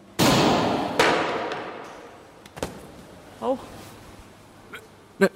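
A single loud, sharp pistol shot, fired with arms extended in the Weaver stance, cracks out and rings into a long echoing tail, followed by a few fainter knocks and a brief vocal sound.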